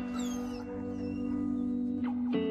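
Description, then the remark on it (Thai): A dog whimpers in a steady, drawn-out whine, with a couple of sharper rising yelps near the end. No one speaks. It is Max, the military working dog from the film Max. “Oh you hear that Max say hi Come say goodbye to your brother Max”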